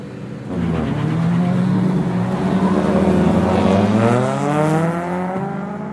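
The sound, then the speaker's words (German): A racing car engine, an Opel, revs loudly and continuously during a race in Munkfors, Sweden, its pitch rising and falling through gear changes, with a sustained roar and no voices. “bei dem Alexander Johansson mit dem Tank in seinem Opel kämpft”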